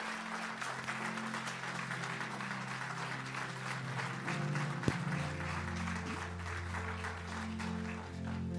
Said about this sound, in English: Can somebody in here clap your hands to the Lord and say amen?